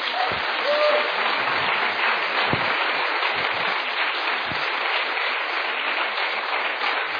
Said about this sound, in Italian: Forte applauso al Signore.